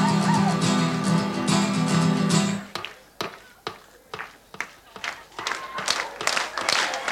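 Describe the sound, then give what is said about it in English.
An audience claps hands and stomps feet in a steady, fairly quick rhythm, the sharp beats ringing out loudly after a brief stretch of sustained musical tones stops, as a performance of the song The Galway Races begins. “If you feel like clapping your hands or stomping your feet or winding your watches or clearing your throats or doing anything like that, have a ging at it.”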